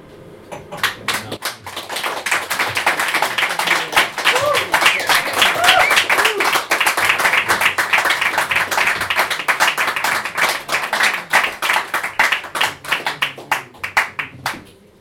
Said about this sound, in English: and just one big round of applause again.